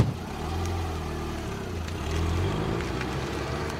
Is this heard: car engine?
yes